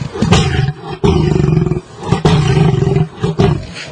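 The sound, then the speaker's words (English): A normal cat glottal growl slowed to a much slower pace with its low end boosted, deep and rumbling continuously in loud, pulsing waves with brief breaks, sounding much like a big cat's roar, alone. “We took that sound and were able, the University of Miami has an audio lab, we were able to slow this down and to a much slower pace and also to highlight the low end, and this is what it sounds like.”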